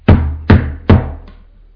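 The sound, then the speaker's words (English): Three loud, heavy knocks land in a steady rhythm, each with a deep thud and short ring, followed by a faint fourth tap. No voices accompany them. “The knock comes and it gets even louder.”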